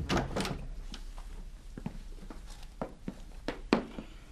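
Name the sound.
door creaking open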